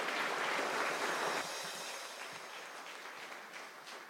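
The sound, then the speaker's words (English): A crowd at a worship service applauds for the Savior, a dense, continuous wash of applause that is loud at first, then eases slightly after about a second and a half and carries on at a lower level without voices. “And can we give Him, the Savior of the world, one more round of applause before we continue our worship?”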